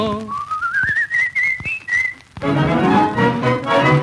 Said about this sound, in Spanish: Me encanta silbar